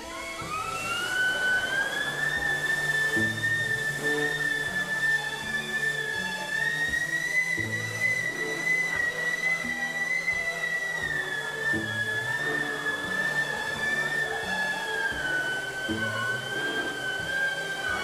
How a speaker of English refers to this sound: The siren song in the second movement requires a high degree of pedal control, since any variation in speed results in a corresponding variation in pitch.